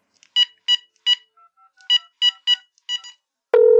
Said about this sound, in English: All right, tell you what. I'll call him up right now. Okay. But I'm not going to give you his phone number. All right, here, let me dial this up.